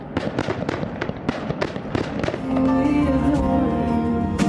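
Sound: fireworks exploding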